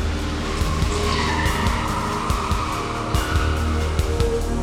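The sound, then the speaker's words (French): A Corsica car tears away with tires squealing as the men in it flee after lighting a fuse, a rising whine sliding in pitch over a loud, steady engine roar, with sharp bursts of skidding scattered throughout. No one speaks. “Dès qu'il fut allumé, les hommes s'engouffrèrent dans la Corsica et prirent la fuite.”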